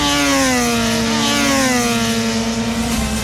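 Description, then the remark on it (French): A loud, steady engine drone with a strong harmonic whine that sinks slightly in pitch, motorcycle engines roaring at Le Mans, France, with no voices. “Alors ça, c'est des motos.”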